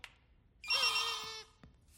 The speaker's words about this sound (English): It's Mr. Lunt's robot call. If you want robots big and small, blow it once, you'll get them all with Mr. Lunt's robot call. It's like a duck call for robots.